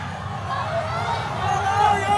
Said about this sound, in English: This is in Shanghai today, the sound of frustration boiling over. Protests are erupting across China, some big, some small, but they appear to be united around one demand, ending the COVID lockdowns.